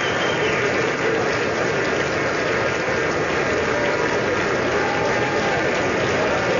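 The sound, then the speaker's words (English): A large crowd claps steadily as a man comes to the podium and walks up to the microphone, a dense, continuous wash of applause that holds at an even, loud level throughout without fading, with no clear voices standing out. “People are clapping.”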